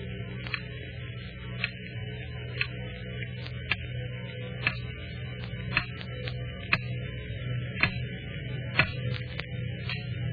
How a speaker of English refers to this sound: Picture for yourself a dark room and someone in that room. It's late at night and the clock is ticking.